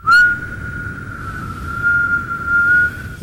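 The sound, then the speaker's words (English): Someone imitates steam with their voice, producing a steady, high whistling tone that holds one pitch for about three seconds, swelling slightly louder near the end, with no talking. “Hold on, I'm making the noise of steam.”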